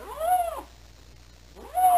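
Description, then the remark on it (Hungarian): Two rough, drawn-out meowing calls of a lynx seeking a mate in spring, the first at the start and the second at the end, separated by a quiet gap. Both are loud and harsh with a rising-falling pitch. “Tavasszal, mikor párt keresnek, érdes nyávogást hallatnak.”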